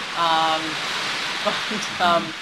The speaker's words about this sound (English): boy, the rain's just picked up here, there's some extra sounds around the window, it's exciting energy.